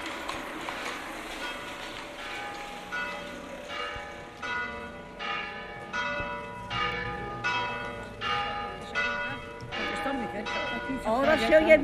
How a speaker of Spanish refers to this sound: Ahora se oyen menos, porque las campanas, ahí arribita hay una. Y aquí en esta calle de atrás hay otra una iglesia de las monjas.